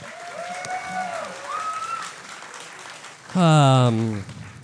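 audience applause

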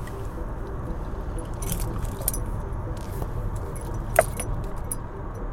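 getting into a car

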